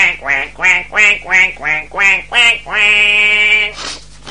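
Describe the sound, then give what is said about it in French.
A duck quacks loudly, about seven quick nasal quacks in a steady rhythm, then one long drawn-out quack before a short final squawk. No one speaks. “Bon, on perd pas de temps, faites rentrer le premier canard s'il vous plaît.”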